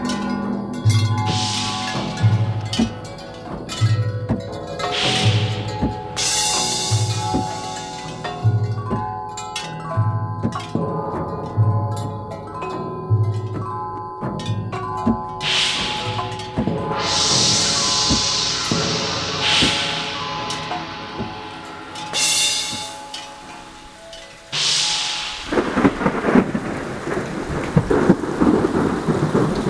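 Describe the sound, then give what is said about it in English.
An elephant named Mekong strikes a thunder sheet again and again, with loud rumbling crashes that swell and fade over a steady rhythmic musical backing, ending in a sustained roaring rumble. “I guess Mekong decided to hit that thunder sheet herself.”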